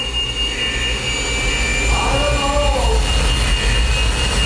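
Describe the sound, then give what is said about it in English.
A jet engine is started up for a bird-strike test and roars loudly and steadily, a high-pitched turbine whine riding over the deep rumble, while a man briefly speaks over the noise. “Fire it up, boys. Engines on. Engines on.”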